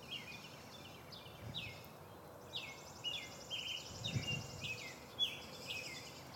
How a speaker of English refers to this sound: Birds are right in the tree above me. That should be nice and clear for you today.